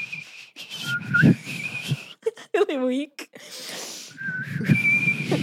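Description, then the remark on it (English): A person whistles steady, high sustained notes in two stretches, separated by a short burst of voiced sounds, with low murmuring speech running underneath the whistling. “But once I saw like a YouTube video on how to whistle and I did it.”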